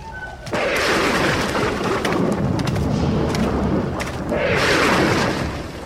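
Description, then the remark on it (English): A loud, close crack of thunder from lightning arcing over a desert, with no rain, breaks in after a brief quiet moment, then rolls on as a heavy, continuous rumble with a second surge near the end. No voices are heard. “The lightning covers the whole of the desert. Arcing across an alien sky.”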